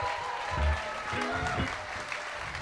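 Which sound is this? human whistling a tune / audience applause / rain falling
audience applause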